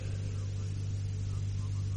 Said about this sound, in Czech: Slyšíme v tramvaji, která s váma háže, plná lidí.